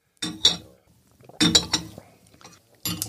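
Teacups of tea clink together in a toast, with a few bright, sharp taps in quick bursts, mixed with faint handling noise and soft murmuring.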